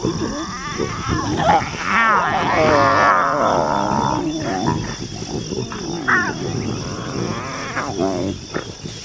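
A lion gives deep, rasping roars and grunts after sunset in the Mara, loudest in the first few seconds and then trailing off, over a steady high drone of insects.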